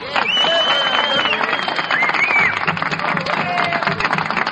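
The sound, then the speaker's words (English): Members of an orchestra applaud steadily for several seconds, a dense, continuous patter of clapping with a few voices and whistle-like tones rising above it. “Let's hear the applause from the orchestra here.”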